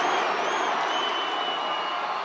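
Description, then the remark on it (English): A hometown crowd in South Florida cheers and roars for The Rock in a loud, steady wash of noise, with a few shrill whistles cutting through the din and no distinct voices speaking. “This is where The Rock's from, King, South Florida, and listen to the hometown crowd.”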